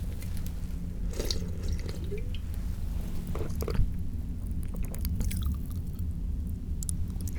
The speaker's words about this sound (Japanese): と言いつつもっと飲むよ。炭酸のお酒を飲んだ後、口を開けるとパチパチって音がするの分かる。